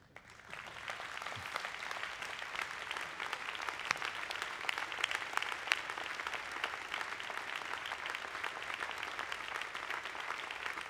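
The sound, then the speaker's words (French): An audience stands and applauds steadily for about eleven seconds, a dense, even wash of many hands clapping with no talking over it. “Le diable s'est levé pour applaudir.”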